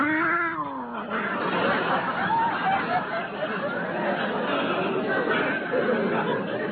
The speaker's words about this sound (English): We call him Clobber because he clobbers every dog in the neighborhood. In self-defense, of course. Oh, yeah. He's a very sweet cat, really.